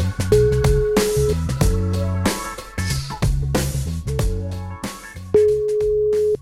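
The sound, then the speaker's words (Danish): A telephone ringing tone sounds while a call connects: two steady one-second beeps about five seconds apart, clearly audible over busy background music with drums and bass. “Tror du, vi får et telefonsvar igen?”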